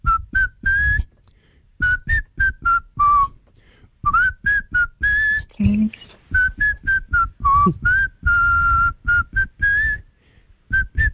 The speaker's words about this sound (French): Il va siffler pour vous ce matin, pour vous faire deviner un artiste français qui se cache derrière son joli sifflet de rossignol.